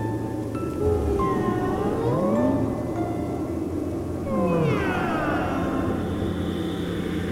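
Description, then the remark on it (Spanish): Two long, eerie, wavering meow-like cries sweep up and down in pitch over a steady low rumble, sounding strange and drawn out rather than like an ordinary cat. “Dijo que sonaba como un maullido. El maullido más extraño que ella ha escuchado en su vida.”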